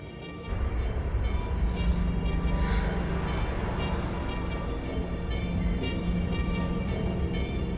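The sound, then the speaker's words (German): A steady, loud low rumble of a train running along the rails, with a constant mechanical hum and faint tonal whine layered over it, continuing unbroken without any voices. “Die Züge haben ja öfter mal Verspätung.”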